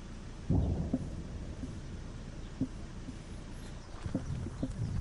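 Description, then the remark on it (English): Explosions in Vovchansk, Ukraine, heard as police officers go door to door evacuating the remaining residents. They thud and rumble at a low pitch: a heavy boom early on, then several sharper, scattered thumps over a steady low roar, with no voices. “Ukrainian police officers went door to door in Vovchansk Thursday to evacuate remaining residents as explosions were heard in the background.”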